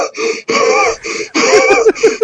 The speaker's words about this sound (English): I love when he starts actually gasping for air.